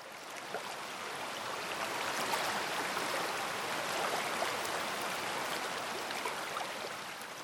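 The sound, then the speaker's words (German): Steady, gently flowing stream water babbles and trickles continuously at an even level, soft, with no voices. “Das Floß setzten sie vorsichtig ins Wasser. Von der leichten Strömung getragen, glitt das Floß weiter und weiter, bis es hinter einer Biegung verschwand.”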